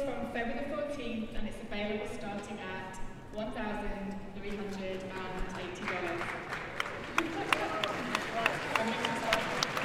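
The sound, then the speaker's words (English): Crowd noise with voices for the first several seconds, then scattered audience applause breaks out at a product launch event for a folding phone, sharp claps growing denser and louder toward the end. “Some varying crowd responses.”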